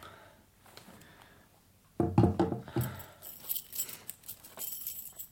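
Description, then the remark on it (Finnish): A bunch of keys jangles, starting with a sharp metallic rattle and continuing in uneven clinks for a few seconds as they are handed over. No one speaks. “Antakaapas se pistooli ja avaimet tänne.”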